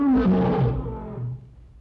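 A lion gives a single deep, throaty roar that starts loud and full, slides downward in pitch, then trails off into a rumbling fade over about two seconds.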